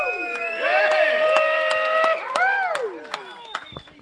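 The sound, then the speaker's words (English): A crowd at the 2014 Council of Conservative Citizens National Conference on Music Valley Drive in Nashville, Tennessee, lets out a loud rebel yell: many high, wavering whoops and hollers overlapping and swooping up and down, with scattered claps, tapering off over about four seconds. “Let's hear a good old-fashioned rebel yell.”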